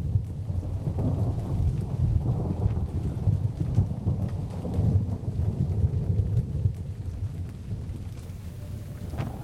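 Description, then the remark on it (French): A steady, heavy storm approaching on the port side roars throughout, with deep rumbling thunder and constant rain hiss, a low, dense wash of sound with no voices. “La tempête s'annonce à bâbord.”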